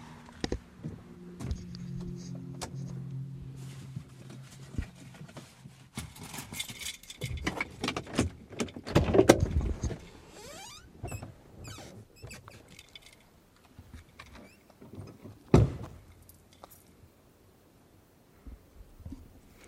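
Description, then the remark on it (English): Rustling, clicks and jangling keys as someone shifts around and exits a car, with a door handle clunk and a solid door thump near the end; no talking. “I'm gonna get out of the car.”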